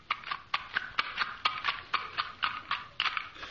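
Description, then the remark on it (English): Horse hooves clip-clopping in a steady, brisk rhythm as a horse is brought to a blacksmith to be shod, over a dozen sharp knocks in quick succession with a bright, hollow tone and no voices. “Would you shoe this horse?”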